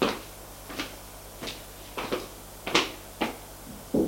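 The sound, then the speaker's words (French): A police officer knocks on an office door at a police station: a series of sharp knocks, about eight raps spaced unevenly over a few seconds, moderately loud against a low background hum. “Le policier va frapper à la porte.”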